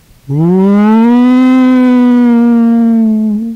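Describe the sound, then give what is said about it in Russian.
A wolf sitting on a hummock with its head raised gives a single long, low howl that swells up quickly, holds a steady, slightly rising tone for about three seconds, then drops away. It is loud and rich, with no talking over it. “Сел волк на кочку, задрал голову и давай выть.”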